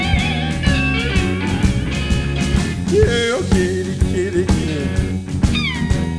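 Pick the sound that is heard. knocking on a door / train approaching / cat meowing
cat meowing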